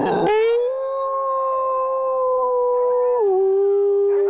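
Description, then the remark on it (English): A single long, wavering howl of a grey wolf in Norway holds a steady pitch for several seconds, then drops slightly near the end, clear with no voices over it. “It's also home to 90 different mammals, including Canis lupus, the grey wolf.”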